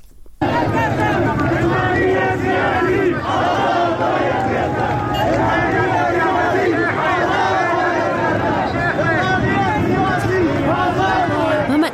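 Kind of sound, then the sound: crowd, street protest crowd chanting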